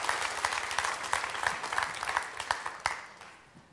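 A crowd bursts into steady applause for a man who just received Christ as Savior, many hands clapping in a dense, continuous patter that holds strong before gradually tapering off at the end.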